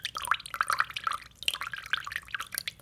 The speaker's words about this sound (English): Either I'm hallucinating or that's water. Water, finally!